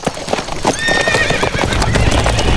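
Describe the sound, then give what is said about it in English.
Hooves clop in an uneven, overlapping patter as a herd of saddle horses is moved through a field by riders, and one lets out a high, wavering whinny partway through over a steady rumble of movement. “As Scraggs and the men with him rode out to take down the fence, Sherman led the rest of his men into the field with the horses, then spread them out around the herd.”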